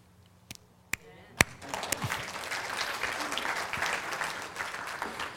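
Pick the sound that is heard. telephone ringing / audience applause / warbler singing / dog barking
audience applause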